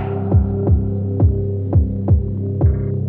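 A hand drum played with the slap stroke, struck with open fingers and a relaxed hand: seven sharp hits in a steady, even rhythm, each with a brief dropping ring, over a constant low hum. No one speaks.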